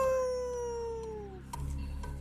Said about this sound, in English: A wolf. Yeah, a wolf.